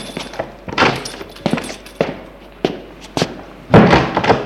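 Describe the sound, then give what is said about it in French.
A door is handled and opened, a series of clunks and knocks from the latch, ending in one louder, fuller thud as it swings open. No voices. “Arrivé, il a tout juste eu le temps d'ouvrir la porte.”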